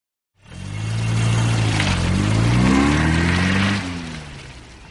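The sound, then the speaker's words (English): A car engine starts up and revs as the car is driven off a train and onto a road in Calais, France, its pitch climbing as it accelerates away, then the roar drops off toward the end. No voices are heard. “And I drove my car off the train and onto the road.”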